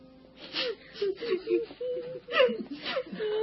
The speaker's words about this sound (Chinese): 彼得到了约帕，好多可怜的寡妇站在他身边哭，并且拿多加在世的时候为他们做的衣服给他看。